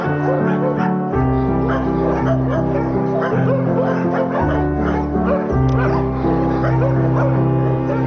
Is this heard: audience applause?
no